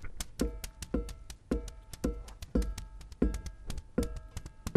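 A steady series of sharp knocks, roughly two per second, repeating about ten times with a faint ringing tail after each. The knocks are clear, with no voices.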